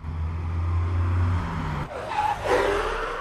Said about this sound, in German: Plötzlich hielt ein Auto vor der Müllkippe an.